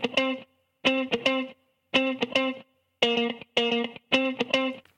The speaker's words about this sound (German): So, ich habe mir jetzt hier einfach mal ein Raster erstellt und zwar auf 110 BPM, das ist die Geschwindigkeit. und habe mir jetzt da einfach mal so eine Gitarre reingezogen. Einfach so eine funky Gitarre, die klingt so.